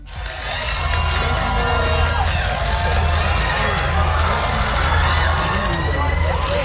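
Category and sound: crowd, cheering fans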